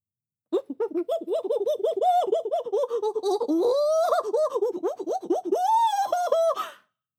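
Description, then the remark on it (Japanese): A voice imitates a seal with a rapid string of pulsing, barking yelps that rise into higher, wavering cries, loud and continuous for about six seconds, with no other sounds. “メス落ちした、アザラシ。”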